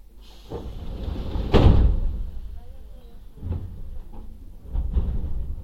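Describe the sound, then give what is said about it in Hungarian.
Metro train doors slide and shut with a loud thud, followed by lighter knocks and rattles over a steady low rumble and faint indistinct voices. “Vigyázzanak, az ajtók záródnak.”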